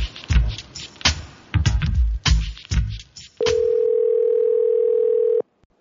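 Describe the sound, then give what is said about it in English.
After a few seconds of clunky handling noises, a single steady electronic ring tone hums for about two seconds, the ringback of an outgoing phone call to a comic book, game and card store in Pflugerville, Texas, then cuts off. “I was just purely doing phone calls today.”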